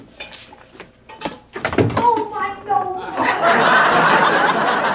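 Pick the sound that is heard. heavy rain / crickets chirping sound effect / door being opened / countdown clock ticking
door being opened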